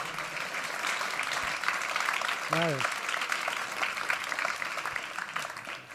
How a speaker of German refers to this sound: Bitte begrüßt ihn doch noch mit einem großen, herzlichen Applaus.